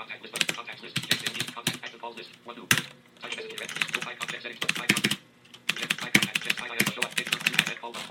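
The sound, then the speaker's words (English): Rapid clacking of keys on a mechanical keyboard during a typing test in Notepad, with sharp individual keystrokes in bursts and a couple of brief pauses between runs of typing. “This is a really nice keyboard.”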